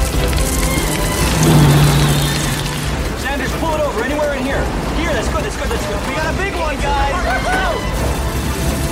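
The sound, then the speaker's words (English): Golf-ball to baseball-sized hailstones pelt down in a loud, dense, continuous clatter of sharp impacts, with a low engine hum and muffled voices beneath the steady roar. “Okay, we got hail. Hail. We got hail.”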